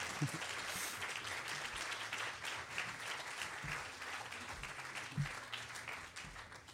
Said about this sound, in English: So give her the delight of a lovely Greenbelt round of applause.